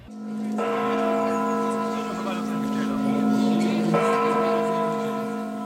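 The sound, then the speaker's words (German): Spassky Tower clock bells chime in a slow, resonant sequence, with rich sustained overtones, opening a military farewell parade in Wünsdorf. A second strike enters near the end, layering over the lingering ring, loud and reverberant. “Ganz wie die großen Militärparaden auf dem Moskauer Roten Platz begann die Abschiedsparade in Wünsdorf mit den Glockenschlägen des Spasskiturms.”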